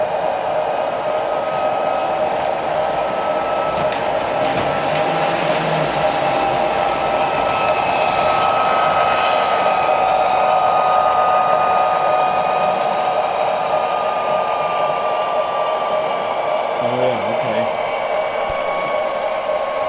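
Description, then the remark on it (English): A large, knob-controlled model train runs, its electric motor whirring in a steady, continuous hum with a faint rattling undertone, fairly loud throughout, with muffled voices faintly in the background. “It's a pretty big train, so you gotta be careful not to go too quick.”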